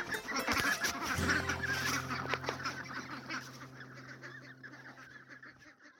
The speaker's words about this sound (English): These are my ducks.